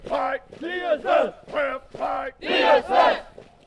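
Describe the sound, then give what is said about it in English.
A group of soldiers shouts in unison during Army drill exercises at the Devens training area in Massachusetts, about six loud, strained bursts of voice in a steady, chant-like rhythm with brief gaps between them. “Army drill exercises at the Devens training area in Massachusetts.”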